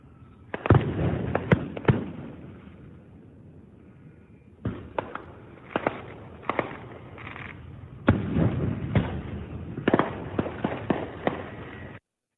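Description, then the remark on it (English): Fireworks exploding at night near a heron nesting area, bursting in irregular clusters, sharp cracks and booms with rumbling tails, some loud, others softer, with a brief lull midway before a denser volley. “It has fallen over 30 feet from its nest as the fireworks were exploding.”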